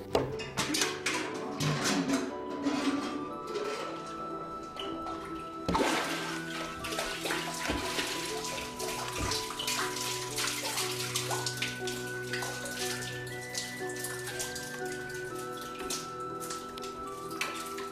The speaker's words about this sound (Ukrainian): Подходит до колодежа, начиная доставать воду.